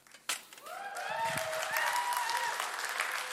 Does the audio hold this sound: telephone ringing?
no